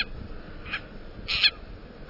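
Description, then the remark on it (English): An owl in Hawaii gives two short calls, a brief one followed by a longer, louder one, heard alone against a quiet background with no talking. “Or perhaps the seeds hitched a ride on the ancestors of this Akeapola owl we're hearing, caught in a storm and blown to the Hawaiian Islands.”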